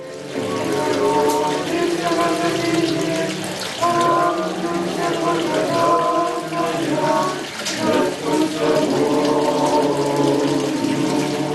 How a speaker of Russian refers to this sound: Сам источник находится в древней подземной крипте. К священному роднику устремляются тысячи паломников. Но, несмотря на множество людей, кажется, что молитвенную тишину храма нарушает только журчание воды.